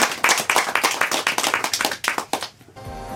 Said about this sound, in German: Schön, dass Sie da sind. Sie dürfen sich selbst applaudieren.